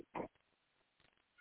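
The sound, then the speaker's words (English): A single short, nasal cat meow, followed by a faint low room murmur with no talking. “Hold on, I got a cat.”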